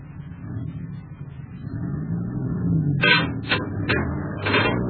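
A heavy truck engine rumbles steadily as the truck pulls straight ahead, growing slightly louder, with several sharp hissing, clanking bursts in the last couple of seconds.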